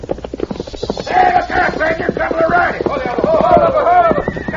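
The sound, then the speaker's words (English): The horses of a couple of riders whinny in wavering, drawn-out calls over a steady clatter of hooves, fairly loud, with the neighing rising and falling for several seconds. “Couple of riders. Hold on. Stand away.”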